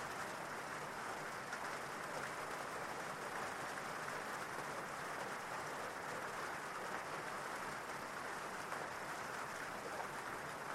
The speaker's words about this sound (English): And you can see how each water droplet impacts the water surface. And then the rain gets heavier, and it seems like the entire surface of the lake is dancing.